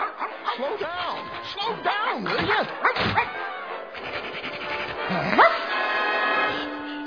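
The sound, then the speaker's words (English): A small dog barks and yips excitedly in a rapid, uneven series of high-pitched, rising and falling cries, fairly loud, continuing throughout with a few sharper yelps near the end. “I spent $700 trying to potty train this dog, and he still won't go on the paper”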